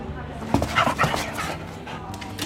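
Dogs whine and bark at a dog hotel on New Year's Eve evening in a quick cluster of yips and whimpers, busiest in the middle second, over a constant indoor background hum.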